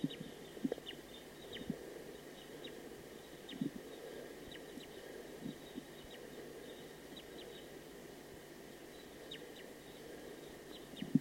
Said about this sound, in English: It's a recording wild bird. That last wild bird was shot. It was a female.